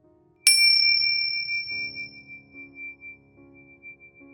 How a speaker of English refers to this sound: And I'll be guiding you through this meditation, and you'll hear the ring of a bell or a chime to begin the meditation, and then at the end.